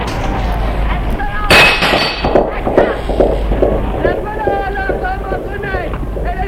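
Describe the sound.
A sudden loud crash with a metallic clang as a shaken ladder falls onto a crowd, followed by a continuous hubbub of agitated voices and cries, with injuries and panic.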